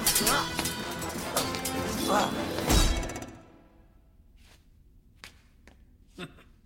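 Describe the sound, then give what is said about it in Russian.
A guitar is smashed over someone's head with a heavy thump and a jangle of ringing strings that stops abruptly after a few seconds, followed by quiet, scattered clicks and light knocks. “Ударил меня по голове гитарой?”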